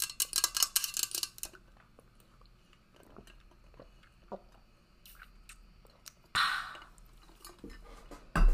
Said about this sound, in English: I actually will drink some water with you. Hold on. There's just one big ice block in there, it sounds like.